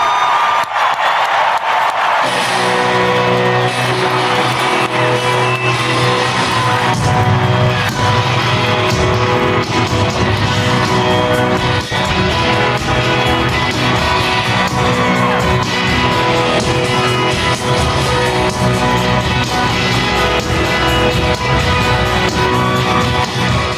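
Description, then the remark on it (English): A huge concert crowd roars and screams nonstop, loud, while amplified music kicks in after a couple of seconds and blends into the sustained cheering, as a band kick off their their tour at the Dome at America's Center in St. Louis on September 26, 2021. “So were some of you in the midst of that screaming crowd September 26, 2021?”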